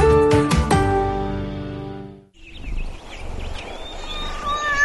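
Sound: cat meowing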